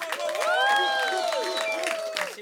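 An audience at the show "Tri Kota" claps and cheers together, a steady burst of applause dotted with rising and falling whoops, loud and sustained for a couple of seconds before easing slightly.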